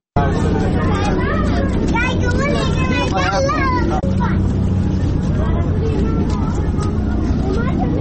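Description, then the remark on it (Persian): Running water pours steadily through a street ditch in Kabul, Afghanistan, a loud, unbroken rushing roar, with a murmur of several people's voices mixed in over the first half. “که با صدای آب های جاری در چه وجوده های کابل آغاز می شود.”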